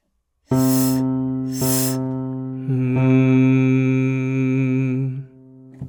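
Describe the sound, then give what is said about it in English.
Two short breathy hisses, each with a steady tone under it, are followed by a longer sung hum that holds one pitch, wavers slightly, then fades. No words are spoken. This is a three-pulse singing exercise, with two pulses on a hiss and the last on a sung hum. “Two of them are on a hiss, and the last is on a sung hum.”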